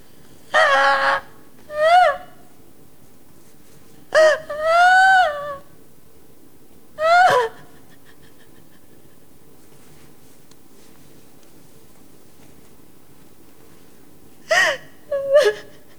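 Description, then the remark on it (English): A woman gasps and cries in several short, wavering bursts as she clutches her flat belly and feels around, sharp intakes of breath mixed with sobbing whimpers, separated by quiet pauses, fairly loud. “She clutches her flat belly, gasping and crying as she feels around.”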